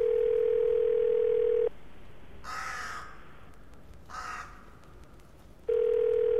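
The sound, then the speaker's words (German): A telephone ringing tone of a call placed to Nauen: a loud, steady, low-pitched beep lasting under two seconds, a long pause, then the tone starts again. Two harsh crow caws sound during the gap. “geht für eine Pause im Hof auf und ab, klingelt schließlich Nauen an.”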